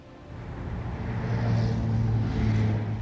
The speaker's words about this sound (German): Da fahren sie in ihren Autos, auf Mopeds und Fahrrädern, gehen allein oder in Gruppen durch die abendlichen Straßen dieser Großstadt unseres Landes, die jungen Leute von heute.